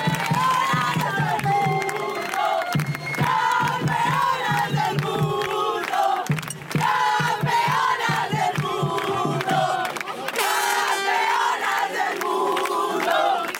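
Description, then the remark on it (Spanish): A group of women taking part in a special sports programme shout and cheer together, their high, overlapping voices loud and sustained for the whole stretch, with bursts of louder yelling rising above the steady crowd noise. “Esos gritos sois vosotras las que me acompañáis esta noche en este programa especial”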